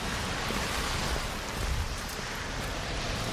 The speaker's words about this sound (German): Ich meine, wer bleibt bei so einem Wetter jetzt eigentlich hier noch an der Ampel stehen, wenn die rot ist? Es kommt kein Auto, es regnet, also es gießt aus Eimern.